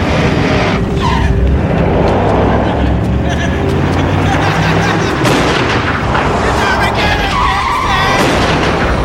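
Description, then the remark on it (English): Loud, chaotic chase involving a big truck, with engines roaring, tires skidding, and sharp bursts of gunfire cracking through, all continuous, with voices shouting underneath. “And that big-ass truck rolls out, and he's flipping with the gun.”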